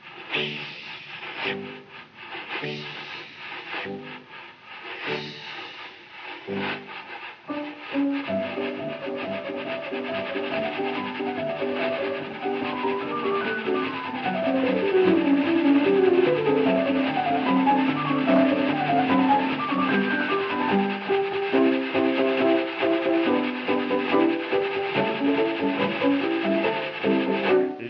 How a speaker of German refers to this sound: Achtung! Lebet wohl, ein kurzer, schriller Pfiff. Und in Bewegung setzt sich die Lokomotive.